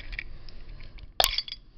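A beer bottle being opened: one sharp metallic pop and clink of the cap, fairly loud, followed by a brief ringing rattle over a quiet background with no talking.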